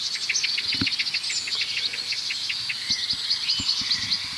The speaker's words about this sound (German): Wir hören das Duck, Duck, Duck der Amsel. Wir hören ein hohes Zieh. Zieh, Zieh. Das könnte von einem Rotkehlchen sein, das hier gerade eben saß. Duck, Duck, Duck, der Amsel. Aufgeregt.